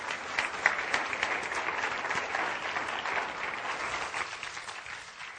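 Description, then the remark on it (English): A crowd claps for the Lord steadily for several seconds, a dense, even wash of hand claps with a few sharper claps standing out, tapering slightly toward the end. No one speaks. “Give the Lord a hand clap, would you?”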